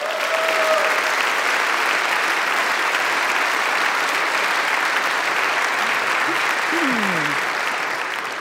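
Sustained, loud audience applause at the Westminster Town Hall Forum, a dense even wash of clapping that holds steady for several seconds with a few faint whistles and brief rising tones in the background.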